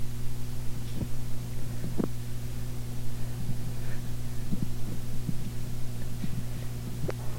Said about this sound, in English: The helicopter overhead.